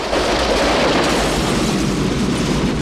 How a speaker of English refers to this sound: A train rockets towards him. He leaps out. The train plows into the car, smashing it to pieces.